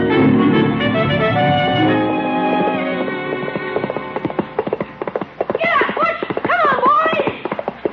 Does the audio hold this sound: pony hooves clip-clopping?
yes